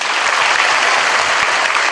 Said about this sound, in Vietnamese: Các bạn vỗ tay như vậy mới áp tiếng mưa. Các bạn vỗ tay như vậy mũi nó không chích được.